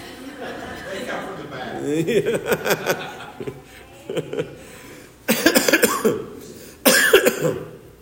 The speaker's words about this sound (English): You would think that would be a blessing for you, and I would be shorter in my message. No, you get to listen to a longer message with coughing, right?